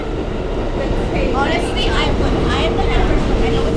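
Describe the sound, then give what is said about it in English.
A New York City subway train bound for Times Square, 42nd Street rumbles steadily along, with a loud continuous low roar and high metallic squeals rising and falling over the din. “all his students, and I hopped on the subway.”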